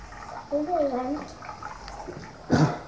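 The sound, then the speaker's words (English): Water sloshes and splashes in a small plugged tub holding straws, a steady wet churn with one louder splash near the end, while a young voice vocalizes briefly over it. “I'll keep this plug and that'll keep it. That's enough water for Shenley Pool.”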